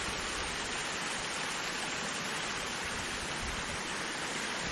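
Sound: water trickling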